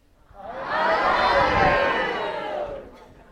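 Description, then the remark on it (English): An audience shouts all at once at the top of their lungs to the person sitting next to them after a count of three, a dense wall of many loud overlapping voices that swells quickly, holds for about two seconds, then fades out. “So I'm just going to mouth the words, but you're going to yell it at the top of your lungs to the person sitting next to you, and we're going to take a deep breath.”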